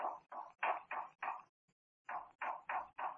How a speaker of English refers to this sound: That knocking, almost as if someone were trying to signal.